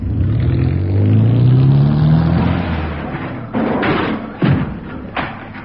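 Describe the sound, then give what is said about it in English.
A car engine starts and revs, its pitch rising steadily, then a heavy thud followed by a couple more thumps as the car drives into a closed garage door. “We should have opened the garage door, shouldn't we?”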